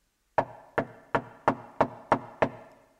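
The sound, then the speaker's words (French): Seven firm knocks on a wooden door in a steady, evenly spaced rhythm, each a sharp hollow thud with a short decay, with no voices. “Le roi frappa à la porte.”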